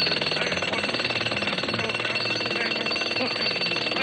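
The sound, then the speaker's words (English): A jackhammer hammers continuously, a loud, rapid, rattling pounding that holds steady for several seconds with no one speaking over it. “And to prove it, I'm going to etch my name in the back of your head with this jackhammer.”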